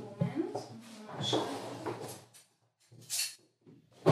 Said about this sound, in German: Klingt nach so einem Besteckschrank. Besteckschublade.